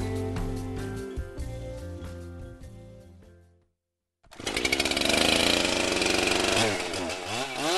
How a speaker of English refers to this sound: handles his chainsaw with the authority of a Benihana chef.